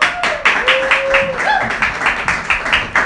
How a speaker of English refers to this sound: Still got a few people cheering.